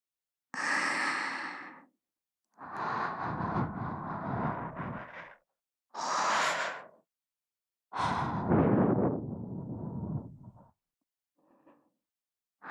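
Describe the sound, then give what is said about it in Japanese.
Soft, warm breaths blown into the ear as the finishing step of an ear cleaning, four long airy exhales with pauses between them, then a faint short puff at the end. No one speaks. “暖かくて柔らかい風じゃろう。”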